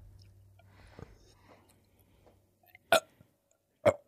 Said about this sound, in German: Kannst du rülpsen nochmal? Junge, richtig stark. Guck mal, wenn ich versuche zu rülpsen, Alter, ich trinke was. Rülpst du nie?